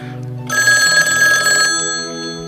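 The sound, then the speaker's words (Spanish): A telephone rings with an incoming call, a bright, rapidly trilling electronic bell, loud, sounding for about a second before fading into a lingering tone. “Otra llamada. Nuestro teléfono está saturado.”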